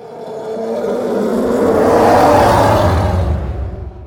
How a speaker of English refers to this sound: So those two elements layered together are what creates the bass loop for the TIE Fighter.